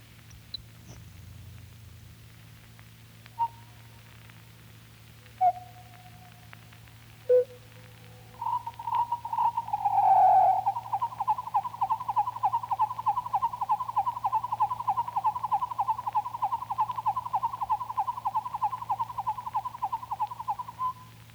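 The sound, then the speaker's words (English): A grasshopper sparrow song, slowed and lowered in pitch by about three octaves: a few spaced, separate ticks, then a long, steady, buzzy trill that runs on for over ten seconds against a low background hum. “The Grasshopper Sparrow.”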